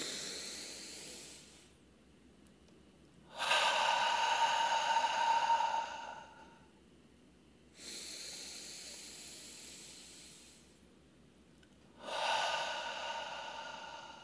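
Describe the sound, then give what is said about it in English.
Three slow, deep breaths drawn in through the nose, airy, rising and falling in a steady rhythm with short quiet pauses between them. No one speaks. “And so for 3 breaths, we're going to let that light shine through us all, being part of one cosmic billion-celled organism, each of us perfect as we are, doing just our perfect role, simply breathing in this moment. Inhale through the nose.”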